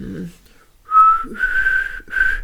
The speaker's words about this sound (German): Du kannst nicht pfeifen? Ich konnte mal pfeifen. Weil pfeif mal.